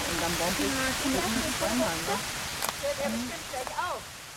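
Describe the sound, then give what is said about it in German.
A heavy, brief downpour pours down in a forest at the end of a three-hour forest-bathing session, a dense, steady hiss filling the whole clip, with faint murmuring voice-like tones drifting underneath. “Einem kräftigen, leider viel zu kurzen Platzregen.”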